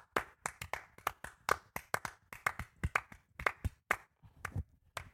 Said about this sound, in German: Hi, heute mal eine extra Portion an Klatschen.